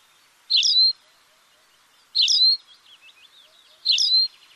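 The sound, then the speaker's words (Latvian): A tawny pipit sings three short, bright chirping phrases at regular intervals, about a second and a half apart, with faint twittering between them; clear, no voices. “No tādām īpašām ir, piemēram, stepes čipste, kas ir gan Latvijā, gan Eiropā īpaši aizsargājama.”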